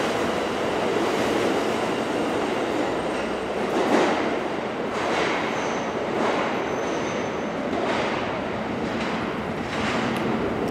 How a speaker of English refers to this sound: Some atmospherics here since we've just descended into the depths of the New York subway system on an August day. Uh-huh. It is not the most pleasant place to be,